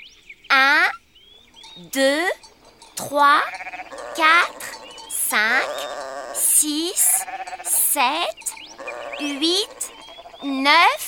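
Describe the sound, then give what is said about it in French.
A flock of eleven sheep on a farm bleats repeatedly and loudly, with a dozen or so wavering calls in quick succession, some overlapping, with no talking. “Il y a 11 moutons.”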